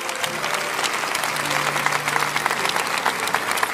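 Steady applause from a crowd honoring the women being addressed, dense rapid clapping that stays fairly loud and even for the whole stretch, with a faint low hum beneath it.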